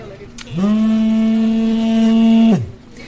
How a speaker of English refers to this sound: The sound you hear there, that's a drone detector telling us that there are drones overhead. I'm just looking at the screen and there are at least 4.